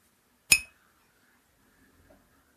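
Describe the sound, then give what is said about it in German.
A single bright clink of beer glasses knocking together in a toast, ringing briefly before fading, followed by near silence with a faint soft rustle. “Prost. Prost.”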